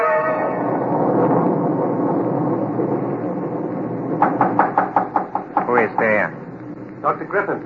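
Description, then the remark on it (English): A steady rumbling hum fills the first half, then a quick series of about six sharp raps on a door rings out, followed by brief muffled voice-like sounds. “Come in. Door is open.”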